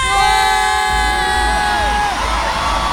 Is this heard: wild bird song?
no